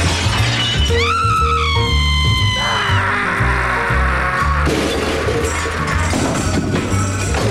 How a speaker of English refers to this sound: Next thing you know, he grabs me. We go out through the plate glass window.